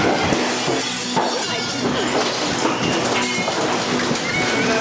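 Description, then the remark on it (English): Softball-sized hail pounds down in a dense, continuous barrage, with sharp cracks and shattering glass breaking through a steady roar of impacts on hard surfaces, loud throughout. “Hail the size of softballs, destroy thousands of homes and autos."”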